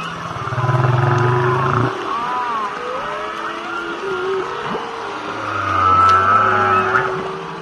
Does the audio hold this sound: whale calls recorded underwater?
yes